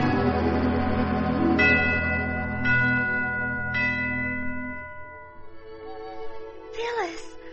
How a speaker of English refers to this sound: I thought I heard sleigh bells.